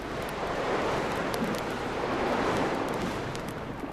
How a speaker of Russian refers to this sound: Попутный ветер, мыс Доброй Надежды, где был брошен якорь, а потом... Потом началась буря.